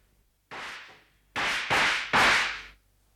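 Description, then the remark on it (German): Four loud pistol shots from loaded pistols, fired by Holmes sitting in his armchair at the opposite wall: a single crack, a pause, then three more fired in quick succession, each with a broad, harsh burst that tails off briefly. “Ich war empört, wenn Holmes Vergnügen daran hatte, mit geladenen Pistolen in seinem Lehnstuhl zu sitzen und auf die gegenüberliegende Wand zu feuern.”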